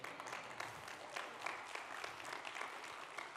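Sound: audience clapping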